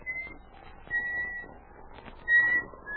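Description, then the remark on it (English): A person whistles a short, halting tune of a few clear high notes with pauses between them while walking through the shadows of spruce trees in the evening, over a low rustling background, at moderate volume. “He missed the comforting companionship of his dog as he walked through the shadows of the spruce trees and began to whistle to keep up his courage.”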